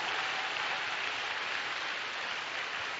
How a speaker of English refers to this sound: You even clap, you see. If you are clapping, you are clapping to the glory of God. You are not clapping to anybody.